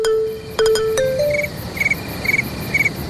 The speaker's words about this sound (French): Papa, t'as laissé ton réveil ? Non, c'est un vrai grillon.